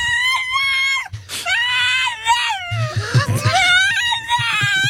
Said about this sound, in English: So this is a dog saying daddy.